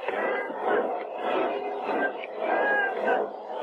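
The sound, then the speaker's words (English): A large stadium crowd yells and shouts together from the stands, a dense, steady roar of many voices that swells and dips slightly over a few seconds, with no single speaker standing out. “Now they're just sitting up there yelling.”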